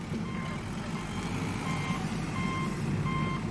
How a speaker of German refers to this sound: Ein Morgen auf der Baustelle. Die Luft ist klar, der Boden noch feucht vom Tau. Ein Radlader rollt rückwärts den Hang hinab.